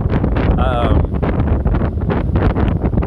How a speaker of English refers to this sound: Wow, it's getting windy. Okay, sorry. Maybe I can shield it here.